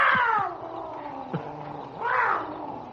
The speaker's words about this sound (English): Will you take that cat to bed with you so we can get some sleep, huh?